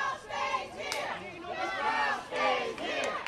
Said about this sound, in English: When the judge's decision was announced, a cheer went up from the protesters, and the earlier chant of "Keep the trial here" was changed.